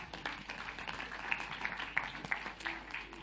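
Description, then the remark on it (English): A church audience claps together in a steady, continuous patter of many hands, with sharper accented claps standing out at fairly regular intervals, moderately loud. “let's clap our hands.”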